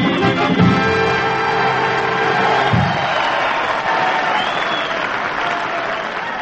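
studio audience applause

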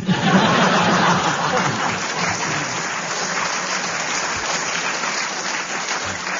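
studio audience applause

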